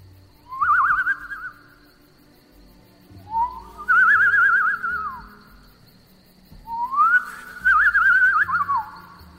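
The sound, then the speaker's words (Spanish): Three separate whistled phrases made with the lips by a hunter to attract a deer, each a wavering, warbling tone imitating a bird call, spaced a few seconds apart, clear with no talking. “Juntaba sus labios y emitía un ligero silbido que imitaba el de un pájaro, para de esa forma llamar la atención de su presa.”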